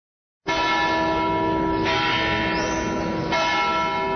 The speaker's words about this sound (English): At Bethlehem's Church of the Nativity, bells announced the services of three different denominations. The imposing structure was first built in 326 A.D., later destroyed and rebuilt in 529.